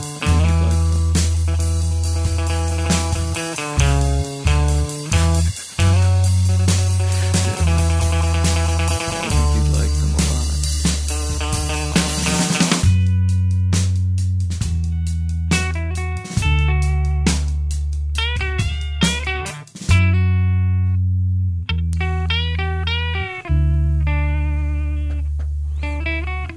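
An indie rock song plays loud and continuous, driven by distorted electric guitar and a heavy pulsing bass line, with a brief drop-out near the middle before the full band returns.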